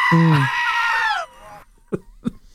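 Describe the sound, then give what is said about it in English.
A single loud, wavering goat bleat lasts about a second, then fades into quiet, followed by two short soft knocks. “listen, you are the goat. There's no question. You are. That's why Guinness. You sound like that.”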